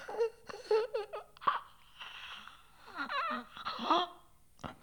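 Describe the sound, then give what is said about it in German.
Uneven bursts of panting and rasping, rattling breaths, some voiced and strained like gasps, by a human voice performing the sounds with brief pauses between them. “Hecheln, röcheln.”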